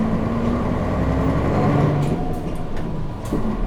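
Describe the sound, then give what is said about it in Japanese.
Steady, loud interior rumble of a moving city bus in Japan bound for Katsura Station: a continuous low engine drone and road noise with a faint hum, fairly even throughout, and no one speaking. “車内では他のお客様のご迷惑にならないよう乗車マナーを守りましょう。”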